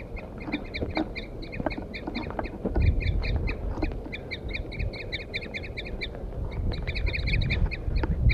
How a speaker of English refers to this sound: The recording, I had left 4-3 on the stump, and I got the wild birds now attacking him. Wild male mostly.